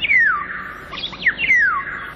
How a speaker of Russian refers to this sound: Птичьи голоса в городах пытаются пробиться к людям сквозь шум автомобилей и бывают слышны здесь совсем ранним утром.